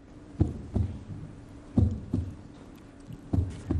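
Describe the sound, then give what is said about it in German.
Paired thumping beats repeat in a steady lub-dub rhythm, three pairs over a few seconds, soft and muffled, an imitation of a heartbeat made by forcefully pulling a cloth taut in the rhythm of a heartbeat, with no voices. “Das hier eben ist aber kein echter Herzschlag gewesen, sondern das Geräusch wurde mit einem Tuch erzeugt.”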